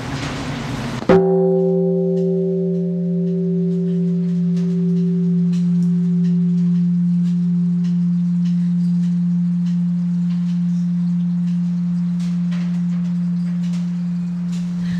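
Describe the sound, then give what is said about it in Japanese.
A large bell, which has a cut-like scratch about 20 cm long, is struck once by a visitor who has climbed up to it. It gives a loud clang followed by a long, deep humming resonance that rings steadily for over ten seconds, with higher overtones fading away early. “さあ私は今鐘を鳴らせるところにまで上がってきました。これ鳴らしていいんですかね。”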